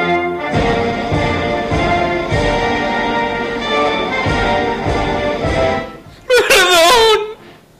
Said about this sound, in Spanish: Hombre, no sé, mire, he puesto entre paréntesis gritando y medio llorando.